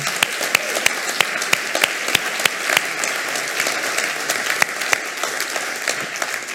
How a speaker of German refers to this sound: Auch euch, der nächste Applaus ist für euch.